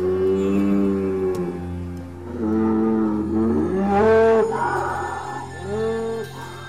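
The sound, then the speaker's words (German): A bull bellows repeatedly at a breeding bull market in Bruneck, Aargau, in long, deep, droning calls with rich harmonics, several overlapping moos rising and falling in pitch, loud and continuous with no speech. “Wir sind auf dem Zuchtstiermarkt im aargauischen Bruneck.”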